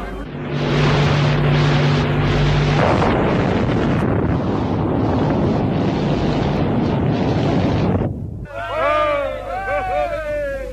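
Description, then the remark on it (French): A massive distant explosion from an atomic bomb test, four times more powerful than Hiroshima, heard by journalists 20 km from ground zero at 7 a.m. on 13 February 1960. It rolls in as a loud, sustained roaring rumble lasting several seconds, with buffeting gusts, before it drops away and a man begins speaking. “le 13 février 1960 à Reagan à 7h du matin, devant des journalistes installés à 20 km du point zéro, où doit avoir lieu à 7h très précisément une explosion 4 fois plus puissante que celle d'Hiroshima.”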